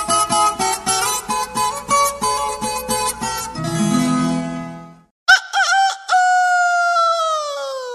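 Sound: rooster crowing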